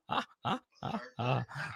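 A dog gives a quick run of five gruff, grunting barks, fairly loud, each burst short with brief pauses between and no talking over it.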